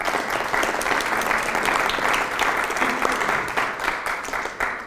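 Steady audience applause, a dense wash of many hands clapping at a fairly loud, even level for about five seconds, with no voices standing out.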